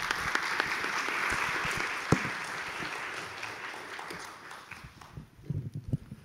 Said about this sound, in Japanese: 大変有意義なご講演本当にありがとうございました。先生に皆さんもう一度盛大な拍手をお願いしたいと思います。